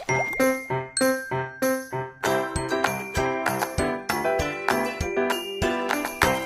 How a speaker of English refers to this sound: Yeah, I heard the transition music.